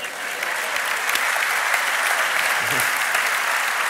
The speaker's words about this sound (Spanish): Un aplauso desde aquí para la gente de la sede de Valencia, que por supuesto son los mejores.